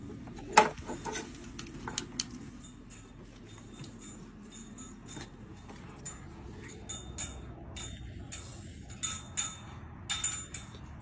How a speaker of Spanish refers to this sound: Ahí está, si no se alcanza a ver, es una puerta metálica, esas que usan casi por lo general en Estados Unidos. Es que nomás se traban con un pasador y está golpeándose la puerta. No hay viento, no hay nada